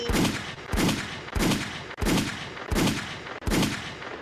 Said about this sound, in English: Can we get some gunshots for that? Gunshots? Gunshots?